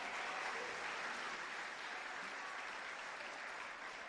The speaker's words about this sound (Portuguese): Tetelestai, Jesus venceu, Jesus venceu, Jesus venceu. Aplauda, Senhor.